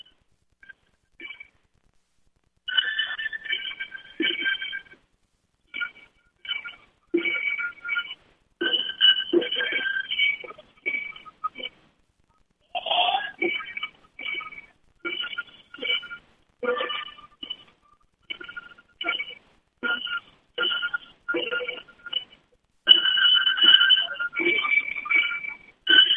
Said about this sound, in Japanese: 言ってたら桜木天山のすぐ後を行きます四条笠鉾がお囃子を伴って、それから子どもたちの棒振り踊りを伴って、やってきましたので、ちょっとお囃子を聞いていただきましょう。